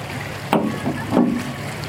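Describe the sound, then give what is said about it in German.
A catamaran boat moving on open water, with two washing surges of water breaking against the hull over a steady low rumble of wind and waves, moderately loud. “Ja, diesen Wahnsinns Sonnenuntergang. Ein Katamaranboot.”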